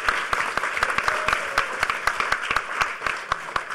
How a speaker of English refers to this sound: Give a big round of applause to the panelists. And a second round of applause because this gigantic panel made it in under 45 minutes, which I don't think has ever been done at a HackerCon ever.